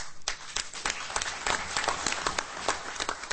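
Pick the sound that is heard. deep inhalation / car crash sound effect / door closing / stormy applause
stormy applause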